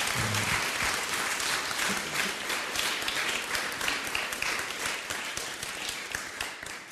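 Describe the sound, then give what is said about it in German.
An audience at an English–German bilingual service applauds for Jesus after a prayer, with dense, sustained clapping from many hands and no talking, holding at a fairly even loudness for several seconds before easing slightly. “Let's put our hands together for Jesus.”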